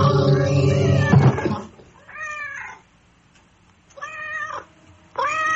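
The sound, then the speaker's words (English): A cat named Roger meows several times: a loud, drawn-out yowl at the start, then three shorter, higher meows spaced apart by brief pauses, with no talking. “Roger the cat saw everything with her yellow eyes.”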